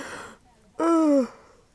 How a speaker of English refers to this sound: Excuse me, yawns. I'm very tired. We didn't actually get back that late, I'm just tired.